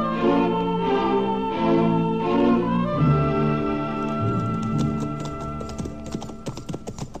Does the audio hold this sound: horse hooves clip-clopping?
yes